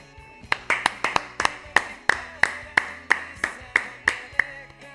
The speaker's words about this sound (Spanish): ¿Hubo gente que aplaudió?